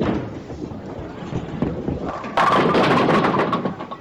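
A bowling ball rumbles low and steady down the lane for a couple of seconds, then slams into the pins with a sudden, loud, bright clatter that rattles on and slowly fades.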